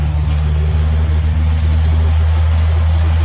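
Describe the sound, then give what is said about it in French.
The engine of a Cessna 206 small propeller plane, about twenty years old, starts and drones steadily: a loud, even low-pitched hum with a constant throbbing rhythm and no voices. “Il marche impeccable, hein? Quart de tour. Le quart d'hélice, il est parti.”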